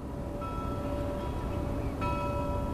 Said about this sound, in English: On this clear and sunny morning, a bell tolls on a nearby buoy.